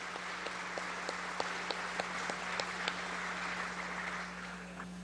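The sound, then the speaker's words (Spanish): A crowd applauds steadily for about five seconds, dense clapping with a few sharper individual claps standing out, easing off slightly at the end over a faint low hum; applause in Colombia for the country's soldiers and police. “A los soldados y policías de la patria, a quienes les exigimos todos los días, les hacemos llegar un aplauso del alma, porque el Putumayo ha mejorado.”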